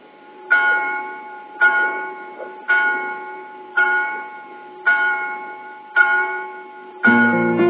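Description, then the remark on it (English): Church bells in a small town ring in a steady, even rhythm, about one stroke per second, each tone lingering and fading; a deeper bell joins at the end. No voices are heard. “I've been listening to the bells. They're coming from that small town over there.”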